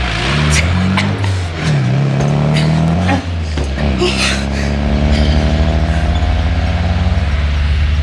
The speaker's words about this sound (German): Frag nicht, sondern fahr los. Wir haben keine Zeit zu verlieren. Ist denn noch ein Platz im Wagen?